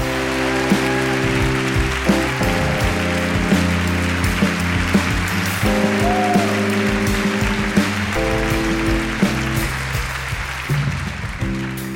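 An audience applauds steadily for about twelve seconds at Snap Judgment Live at the Brooklyn Academy of Music, a dense wash of clapping layered over music with sustained tones and a steady beat, with no talking.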